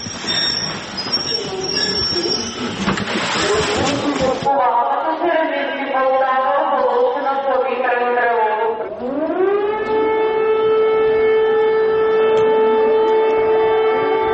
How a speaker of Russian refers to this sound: Посреди ночи Полтавский вокзал встречает поезд с сиреной. На вокзале ни души.